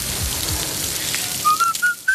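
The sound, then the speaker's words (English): Beef burger patties, made to order from whole cuts of beef from farms across Britain and Ireland with a pinch of salt and pepper, sizzle with a steady, dense crackling hiss, joined in the second half by a few short, thin whistling tones that rise slightly in pitch. “That sizzle speaks louder than words.”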